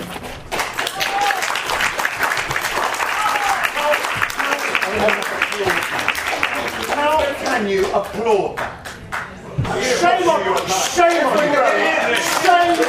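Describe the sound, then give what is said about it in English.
A large audience breaks into sustained, dense applause that fills the whole stretch, with raised voices shouting over the clapping, growing louder toward the end. “How can you applaud that?”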